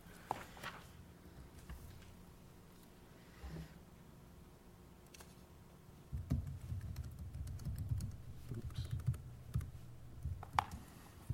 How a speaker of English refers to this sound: Hate to have my typing skills up for everyone to see.